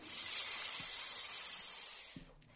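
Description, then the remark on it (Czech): A long, steady hiss like a snake's, loud and airy, holding for over two seconds before trailing off, with a couple of faint low thumps near the end and no talking. “Připlazil se k němu takový zvířátko, podívejte se, děti. Dodo se ptá, kdo jsi? No, já jsem had.”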